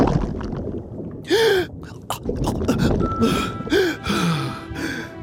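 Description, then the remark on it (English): Two sharp, loud gasping breaths, each a rushed inhale with a strained vocal squeak, as a small fish breathes in water on a reef off Fiji, set against a low, murky watery rumble and scattered bubbly clicks. “I'm breathing water, which means I am a sea mouse.”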